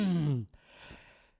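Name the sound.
sneeze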